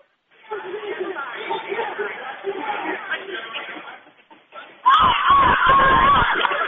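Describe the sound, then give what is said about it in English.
A crowd of children, a Pep Cup squad cheering for the Rookies during a timeout in a game against the Eagles, chatters and murmurs steadily, then erupts into a loud burst of high-pitched cheering and shouting for the last couple of seconds. “These little kids are excited to be cheering for their rookies.”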